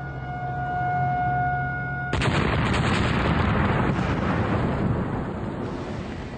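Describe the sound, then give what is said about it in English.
A steady tonal hum gives way to a sudden, powerful dynamite blast at a construction site around two seconds in, set off from dynamite sticks and caps packed into pre-drilled holes, followed by a loud, broad rumbling roar that slowly fades, with no one speaking. “More dynamite caps are placed in the hole before the explosion is triggered.”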